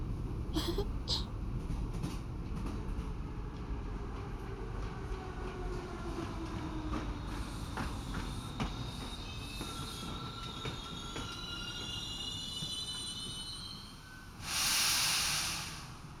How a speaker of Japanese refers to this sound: はい、到着です。この駅でしばらく電車を停車させます。